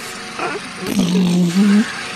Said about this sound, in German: ich habe es gefunden auf YouTube, Rasenmäher, Einschlafhilfe für Baby